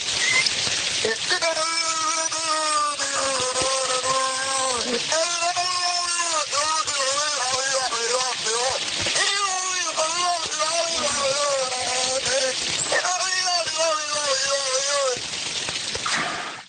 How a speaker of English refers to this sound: That's a whale, not a person.